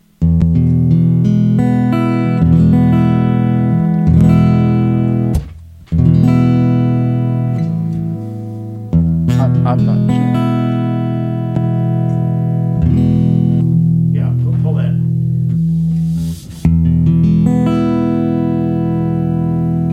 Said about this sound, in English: Now, let's go ahead and hit the ego compressor so they can hear what that does.